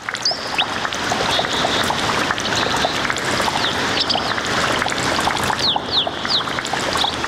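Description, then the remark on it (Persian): Water flows and splashes steadily at a spring (gudar), a constant rushing sound, with a few high bird chirps scattered over it and no voices. “در این برنامه با شما یک جا به طرف گودر یا چشمه ساران می رویم.”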